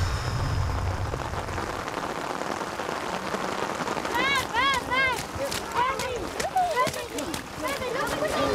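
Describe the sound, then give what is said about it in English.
Steady rain hisses continuously and evenly across the whole stretch, with a run of short, repeated chirping calls rising above it midway through. “We're going to be in the back of the trailer in the rain, singing our jammy pants.”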